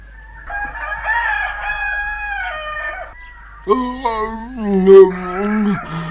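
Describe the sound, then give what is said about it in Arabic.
A rooster crows twice in the morning, loud: first a long, steady, higher-pitched call, then after a brief pause a second, lower and fuller crow that wavers before trailing off. “الويل لك أيها الديك، مرة أخرى أصبح الصبح والديك يزعجنا بصوته الكريم، ولا أدري كيف أتصرف معه.”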